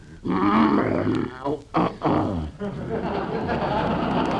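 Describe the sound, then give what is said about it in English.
A bear named Carmichael, being coaxed to take cough syrup, growls in deep, rough rumbles: a long snarling growl, a few short guttural bursts, then a sustained low growl that carries on steadily to the end. “Now, here, Carmikey, be a good little bearsy-wearsy and open Ooh's mouth.”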